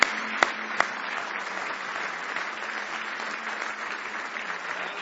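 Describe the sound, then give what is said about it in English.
An audience at a morning church service breaks into sustained applause as a hand clap of praise, many hands clapping in a dense, steady wash for several seconds, with a few sharper claps standing out at the start. “Now give him a big hand clap of praise if you love him this morning.”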